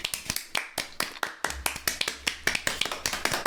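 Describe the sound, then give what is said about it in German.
Three people clap together after a poem is recited, their uneven, overlapping claps forming a thin, sparse round of applause with no voices. “Das klingt irgendwie traurig, wenn wir drei hier... Wir können einfach noch so ein Publikum in den Hintergrund einblenden.”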